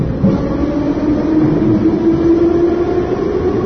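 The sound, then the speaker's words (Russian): A steady, loud rumble of a metro train running through a tunnel on its way to Frunzenskaya station, with a constant droning hum and rattling noise throughout and no voices. “Едзем на станцыю Фрунзенская.”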